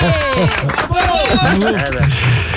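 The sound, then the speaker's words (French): A lively crowd applauds and cheers, with many overlapping voices whooping and shouting throughout the short, loud burst. “On t'applaudit”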